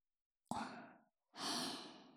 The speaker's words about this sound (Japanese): じゃあ、最初は耳かきをしやすいようにあったかい吐息でふうふうしちゃいますね。